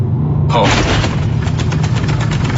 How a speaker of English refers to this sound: He just went through a massive pothole.